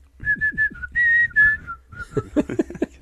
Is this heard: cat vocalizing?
no